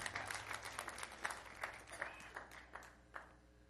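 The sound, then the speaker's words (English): A crowd claps steadily for a few seconds as a hand clap of praise for Jesus. Dense, overlapping hand claps form a continuous bright patter, with a few louder individual claps standing out and no voices on top. “Give Jesus a hand clap of praise this morning.”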